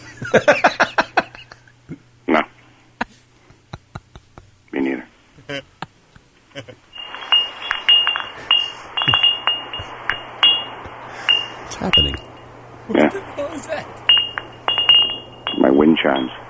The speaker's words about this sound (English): You like wind chimes?